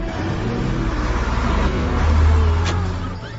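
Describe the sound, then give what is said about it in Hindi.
A bus engine rumbles steadily as the bus arrives, with a deep, loud drone that swells slightly midway, with a brief hiss near the end and no voices. “हाँ गे देखी बस चल अलो।”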